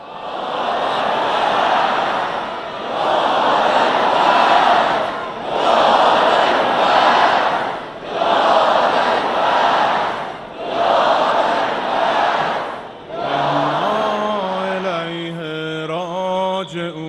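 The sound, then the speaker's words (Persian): A large crowd loudly chants 'Ya Abolfazl' in unison on the night of Tasua, five or six powerful shouts in a steady rhythm with short pauses, before a lone voice begins a wavering, melodic lament. “دست راست تو بلند کن با صدای بلند، هر کسی میشنوه شب تاسوعا چند تا یا ابوالفضل بلند بگو.”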